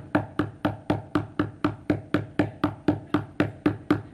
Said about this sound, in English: You know, your kids aren't going to go back to sleep if I keep knocking like this. You're going to be up all night. I'm just going to keep on knocking till you give me some bread.